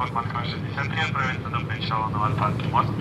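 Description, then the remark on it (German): A ship's engine drones steadily in the background, a constant low rumble that holds throughout while someone talks over it, as the ship moves away from the pier at Moscow's Kiyevsky railway station. “Unser Schiff, wir hören es im Hintergrund, bewegt sich nun weg von der Schiffsanlegestelle beim Moskauer Kiewer Bahnhof.”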